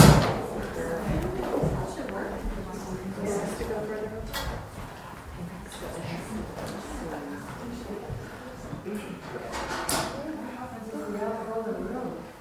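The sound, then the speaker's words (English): Scattered wooden knocks, scrapes and thumps of chairs being shifted around a room as more chairs are added for a group, irregular, with a murmur of people talking in the background. “So I'm so glad that I can sit here tonight, and someone else can move the chairs.”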